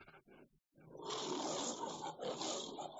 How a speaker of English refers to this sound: You are looking forward to hearing that sound because you're there for that exact reason, to go after that lion.